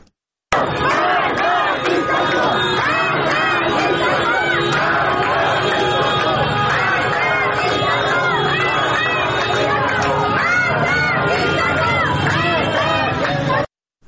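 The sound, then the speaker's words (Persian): A large crowd of protesters in Tehran chants slogans against government officials, especially Ali Khamenei, at a gathering after news of Mahsa Amini's death. It is a dense, loud wall of voices with shouting and rising cries that holds steady for the whole stretch. “در این اعتراض‌ها شعارهای علیه مقام‌های حکومتی به ویژه علی خامنه‌ای سر داده شد.”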